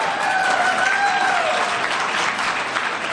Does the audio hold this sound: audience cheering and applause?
yes